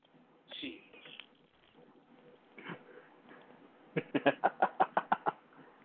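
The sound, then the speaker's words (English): A person imitates a pigeon's coo, producing a quick run of about eight throaty, rhythmic pulses, following some softer vocal sounds. “Then give us one of your pigeons.”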